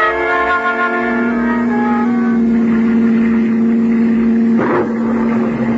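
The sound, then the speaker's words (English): A loud, steady car engine drone holds a constant pitch as the car races across the English countryside in driving rain, swerving along a narrow cliff road, with a brief rushing burst near the end. “An hour later, you're racing across the English countryside, the rain driving against you as the car swerves perilously along the narrow cliff road.”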